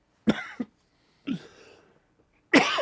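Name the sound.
sneeze or cough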